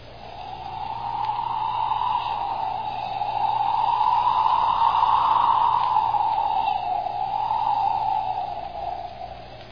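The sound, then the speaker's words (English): A steady, airy whoosh of a cold breeze coming in off the ocean, as the boat Bluebird heads out into a harbor, blows on its own, swelling and easing in slow, gentle waves for about ten seconds with no one talking. “That were the breeze.”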